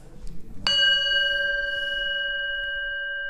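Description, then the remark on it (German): A single gong strike opens a discussion round at a men's Alcoholics Anonymous meeting, ringing out clearly after a moment of quiet room noise, its bright metallic tone sustaining and slowly fading without any talking. “Mit einem Gong leitet Meinrad Göhner die Gesprächsrunde ein.”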